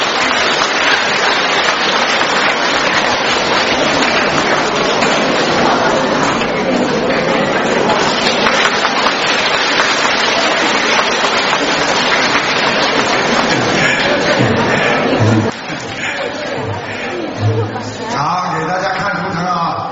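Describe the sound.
Loud, dense audience applause congratulating the station director, a steady crackling wash of many hands clapping for about fifteen seconds, then it drops away as a voice and some tonal sound take over.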